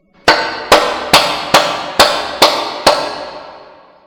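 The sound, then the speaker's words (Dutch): Seven sharp hand claps at a steady, even pace, given as an example of a lot of reverberation, each followed by a long reverberant tail that rings on and blurs into the next, fading slowly after the last clap. “U hoort nu veel galm.”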